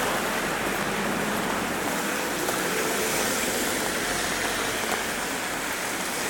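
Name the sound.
rain falling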